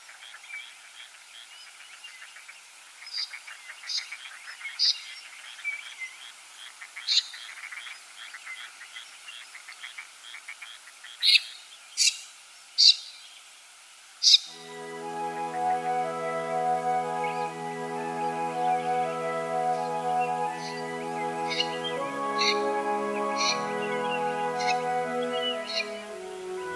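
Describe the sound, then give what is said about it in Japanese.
A common snipe in rice fields in Matsudo, Japan, on a spring morning gives a handful of sharp, rasping calls over a dense, steady chorus of frogs; about halfway through, soft sustained music fades in beneath them. “朝の小鳥、今朝は松戸のタシギをお送りしました。”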